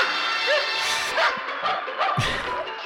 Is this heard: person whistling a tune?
no